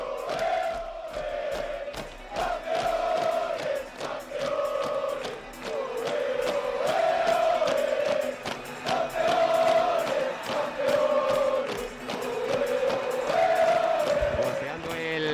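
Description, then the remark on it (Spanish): Atlético de Madrid players, gathered on the pitch with club staff for a group photo, loudly chant together in celebration as champions, repeating the same sung phrase in a steady rhythm with shouted accents, continuous for the whole stretch. “En una esquina Marcos Llorente, en otra Coque, ahí está esa foto espectacular y el cántico de los jugadores atléticos.”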